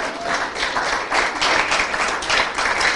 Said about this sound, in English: You can clap if you want to clap.